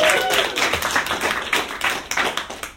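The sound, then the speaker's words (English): A crowd claps together, a dense, steady patter of many hands striking at once, lasting a few seconds without fading much and with no voices over it. “Clap it up, get excited.”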